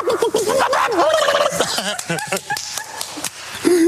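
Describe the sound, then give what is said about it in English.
A person does a loud chicken impression, a run of warbling clucks and squawks with jumpy pitch, delivered in quick bursts for a few seconds without any normal speech. “You did the chicken.”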